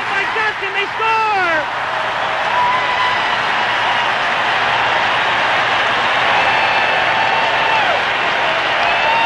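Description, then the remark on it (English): A roaring, euphoric hockey arena crowd cheers after a goal in a game between the U.S. and Soviet teams, a dense, loud wash of noise with scattered higher shouts and whistles rising above it, sustained without a break. “And, you know, not only were we excited, the crowd was euphoric.”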